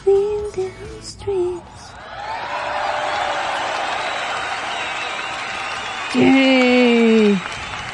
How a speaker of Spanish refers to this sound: y aplausos, por favor.